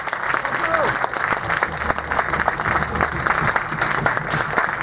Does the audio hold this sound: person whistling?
no